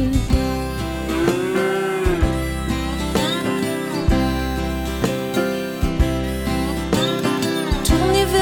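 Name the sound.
cow mooing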